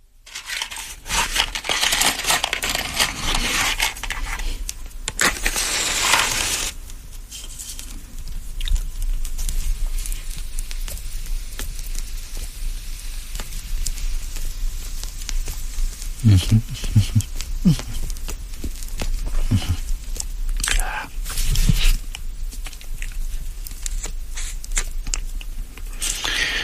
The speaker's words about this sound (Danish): Så er der lidt ild på den igen. Cigaren her, velkommen tilbage efter nyhederne.